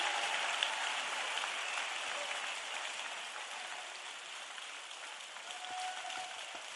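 A crowd claps continuously, a dense, steady wash of many hands with no distinct individual claps, holding at an even level for about seven seconds without any voices.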